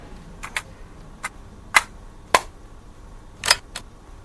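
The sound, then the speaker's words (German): A series of sharp plastic clicks and clacks as a Walkman portable cassette player's buttons are pressed and a cassette tape is pushed in, spaced irregularly over a few seconds with a quiet background. “Diese Geräusche werden viele noch kennen. Knopf drücken, Kassette reinschieben, Musik an und los.”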